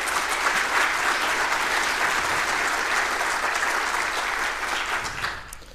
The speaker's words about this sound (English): So again, welcome to everyone in the stream from my side as well. And yeah, big round of applause to them.